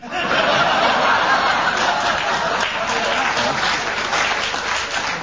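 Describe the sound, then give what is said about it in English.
Steady audience applause fills the whole stretch at an even, fairly loud level, a dense patter of many hands with scattered chuckles and laughter mixed in. “It's what I call lingering applause.”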